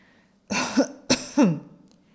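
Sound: man clearing his throat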